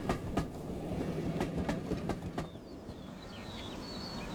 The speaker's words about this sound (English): Then I saw the clock had moved an hour, and I heard the whistle of his train across the hills.